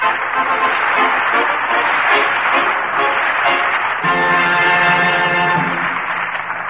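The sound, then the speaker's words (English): A Town Hall studio audience applauds to welcome the amateurs of a weekly contest, in a dense, steady roar of clapping that holds at full volume throughout; partway through, sustained musical tones rise beneath the applause. “Before Colonel Soupnagel and Bud resume their duties as hosts, let's start these folks off with a rousing Town Hall reception.”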